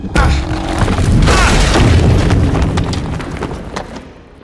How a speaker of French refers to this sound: Dans un craquement sourd, les gonds se dérobent et la porte s'effondre.